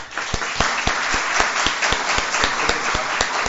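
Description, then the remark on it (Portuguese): An audience at a municipal council (Câmara Municipal de Vereadores) session applauds in tribute to those receiving certificates of recognition, a dense wash of many hands clapping with some sharper individual claps standing out at a fairly regular pace, sustained at a moderate level throughout. “Quero, neste momento, que possamos homenageá-los aqui neste momento também com uma salva de palmas.”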